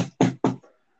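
knocking on a door

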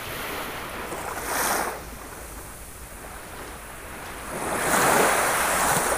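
ocean waves

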